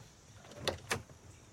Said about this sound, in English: He opens the car door and vomits.